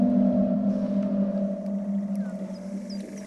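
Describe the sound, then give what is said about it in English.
A few short, bird-like chirps and sweeping squeaks, probably from fish and bugs, surface faintly over a steady, loud low drone in an underwater recording heard in the room of Jana Winderen's work, with no one speaking. “So we're in the room of Jana Winderen, and you might think these chirps are birds, but I actually think we're at this point underwater.”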